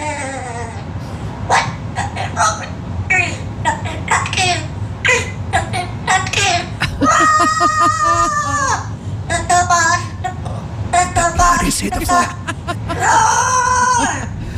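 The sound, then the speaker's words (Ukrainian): A parrot screeches and squawks loudly in bursts over heavy metal music, its harsh cries rising and falling as if singing along with the pounding track. “давайте згадаємо просто один з найкласичніших музичних етюдів у виконанні папуги … …”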